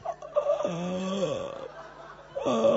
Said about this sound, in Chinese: 哎呀，喘气。